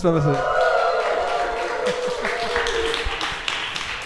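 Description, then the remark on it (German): A live audience, asked to make some noise, cheers loudly for about four seconds, with shouts and whoops riding over steady clapping that stays strong throughout. “Und wir sind nicht alleine, wir haben nämlich ein Live-Publikum hier. Lasst mal was von euch hören.”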